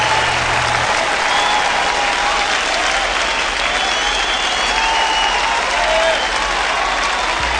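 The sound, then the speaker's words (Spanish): An audience applauds steadily, a dense wash of many hands clapping at an even loudness for several seconds, with a low rumble underneath and no speech. “lo recibimos con un gran aplauso.”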